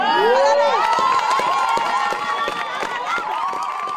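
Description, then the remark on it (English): A large crowd cheers loudly, with high whoops and shouts rising over a steady wash of clapping that continues throughout, sounding energetic; the applause is for Meghan Markle after her speech as a member of the royal family. “The applause Meghan got said it all, and you could just see what an impact she was having.”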